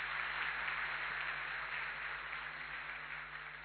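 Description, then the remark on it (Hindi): Steady audience applause at the opening of the first class of a bhatti (retreat), a dense wash of many hands clapping at once that holds evenly throughout, with a faint low hum underneath and no voices. “तो इस खुशी में एक बार और जोरदार ताली बजाए।”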